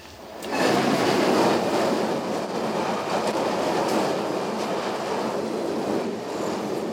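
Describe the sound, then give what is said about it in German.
A train rumbles past, a loud, steady roar of wheels on track with faint rhythmic clatter, swelling in quickly and holding for several seconds with no voices. “Während der Rauferei kam hinter den Somaliern auf einmal ein Zug.”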